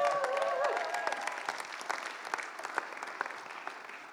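Audience applause, a dense wash of many hands clapping that starts strong and gradually tapers off over a few seconds, with a brief whistle-like tone near the start.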